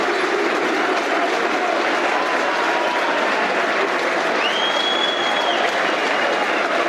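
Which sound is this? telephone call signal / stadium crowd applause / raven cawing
stadium crowd applause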